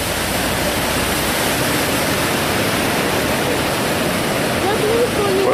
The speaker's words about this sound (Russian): У нас сейчас хорошие волны, друзья. Давайте мы, знаешь, туда посмотрим, какие волны у нас на океане, чтобы ребята могли посмотреть.